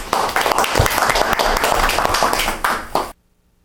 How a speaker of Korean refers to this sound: 예, 박수요.